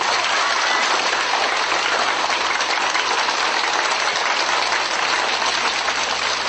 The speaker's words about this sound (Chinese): 现在让我们以热烈的掌声欢迎